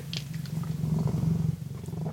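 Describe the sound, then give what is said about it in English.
A cat, Morrissey, purrs steadily, a low continuous rumble with a quick pulsing rhythm that holds at an even, fairly strong level throughout, with no talking. “you're with me and my cat, Morrissey, the good-looking and pleasant to be around.”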